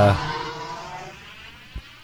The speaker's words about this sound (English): You can really hear the wetness of the cars driving by now.